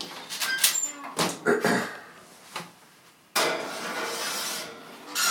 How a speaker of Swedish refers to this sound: Och sen har jag satt på ugnen här på 175 grader. Och så kör vi in den nu helt enkelt.